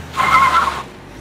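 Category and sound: vehicle, car driving off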